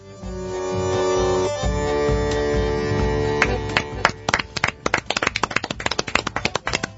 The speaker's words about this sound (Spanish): Este es el aplauso para el ganador.